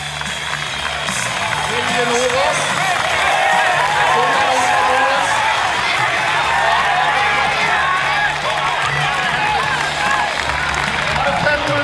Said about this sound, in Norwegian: Nå skal vi få høre publikum brøle en gang til. Det ganske moro å være på løp i Norge når det sånn som det nå.